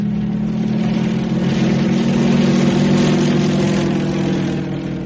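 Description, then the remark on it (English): A propeller airplane engine drones steadily and loudly while flying in the air, a sustained buzzing roar with a strong low hum that holds throughout and eases slightly at the end. “In the air.”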